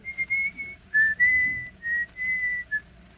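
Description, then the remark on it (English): Someone whistles a short, gentle tune while leaning against a door, a few sustained notes rising and falling with brief pauses between phrases, over a faint low background murmur. “No, he just stood and leaned against the door, whistling a little tune.”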